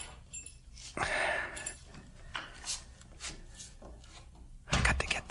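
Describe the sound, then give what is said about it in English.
A wooden door is lifted and eased open, with a series of soft scraping, rubbing creaks and a louder grinding scrape near the end, no voices. “If you lift it, it opens easy.”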